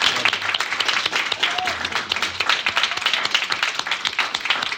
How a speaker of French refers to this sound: je vous invite à vous lever pour qu'on vous remercie. Même si ce n'est pas fini, c'est bien d'applaudir avant que ce soit fini. Merci. Bravo.